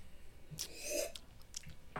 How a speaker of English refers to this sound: Yeah. I made a slurping sound on purpose.